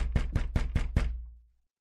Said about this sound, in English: Wait, it's let's get the first knock of the season of spring training out of the way. Give a little knock back there,